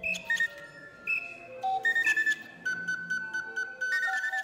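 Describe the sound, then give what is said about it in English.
A string of shrill, whistle-like bird calls from a keyboard-controlled machine built from about 60 bird calls, called a bird call aviary, playing music written for it: stepping between held pitches in a halting melody, with breathy chirps and rattles layered over the tones. “And so we put together a machine with about 60 of those, the best of the bird calls. I'm able to control it with a keyboard, and I can write memory onto a memory chip and play music that I write for this thing.”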